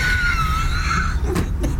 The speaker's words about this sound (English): we're going to listen to the door shut as Sean leaves